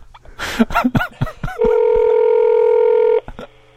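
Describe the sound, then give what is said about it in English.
A mobile phone number being dialed: a quick run of short, uneven beeps, then one loud, steady, buzzing ring tone held for about a second and a half before cutting off. “And then that was a unique ring.”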